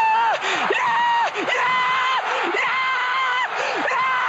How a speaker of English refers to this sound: Want to know what he's screaming about and in what language? I already know. You got to stick around and find out.